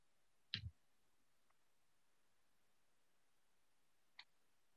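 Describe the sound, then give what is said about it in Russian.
Two isolated computer mouse clicks on the Materials button in a website's top menu: a solid click with a soft thump, then after a few seconds of near silence a lighter, sharper second click. “А ты нажал на кнопку материалы, да?”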